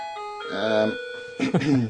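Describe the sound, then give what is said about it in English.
A clock striking twelve chimes with a few ringing, sustained tones that step in pitch, followed by a burst of voices talking over the fading chime. “Got 12 bongs to sit through now.”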